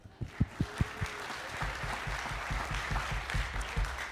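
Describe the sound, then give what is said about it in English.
A jazz concert audience bursts into applause for itself, starting with a few sharp, scattered claps that quickly swell into steady, dense clapping over a broad, noisy wash of sound. “Thank you very much, so you can give a grand applause to yourself.”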